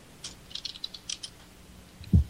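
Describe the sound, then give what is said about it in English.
A quick run of light, irregular computer keyboard clicks, someone typing into a chat room in a few bursts before a soft low thump at the end; no voices. “I heard you typing. You're typing into the chat room.”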